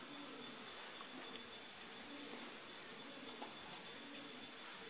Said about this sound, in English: We've got a chorus of pigeons out there. It's pigeon time.